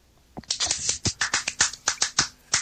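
Brief hand clapping, roughly a dozen sharp, bright claps at a quick, fairly steady pace over about two seconds, with no voices.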